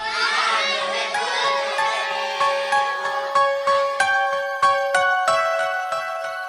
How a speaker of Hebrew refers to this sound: כל הילדים ליוו אותו בשירה ובהתרגשות עצומה.